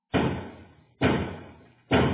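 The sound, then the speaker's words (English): Three heavy, booming knocks strike a door of the council chambers of the Town of Fort Erie at a slow, steady pace, each impact ringing out and fading before the next. Loud, with no voices. “After they break down the door.”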